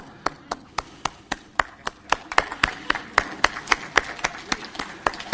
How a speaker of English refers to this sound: Give yourself a big hand.